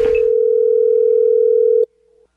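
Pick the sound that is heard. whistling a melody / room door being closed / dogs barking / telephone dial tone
telephone dial tone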